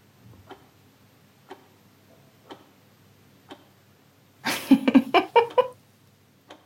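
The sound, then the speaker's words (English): A clock ticks steadily, about once per second, soft and clear against quiet, in a German registry office during the Corona pandemic. Midway a louder, brief burst of voiced, tonal sound covers a couple of ticks before the ticking resumes. “That ticking clock in the background?”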